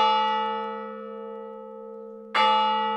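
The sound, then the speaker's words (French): A church clock bell strikes midnight, striking twice, about two seconds apart, each deep, ringing toll with rich overtones decaying slowly into a long hum. It rings out alone, with no voices. “L'horloge de l'église sonne minuit à ce moment précis.”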